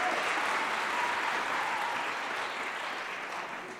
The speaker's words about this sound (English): And can we just give them a round of applause for being brave?